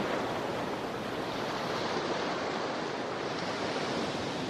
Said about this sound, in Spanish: Rugir de olas golpeando acantilados.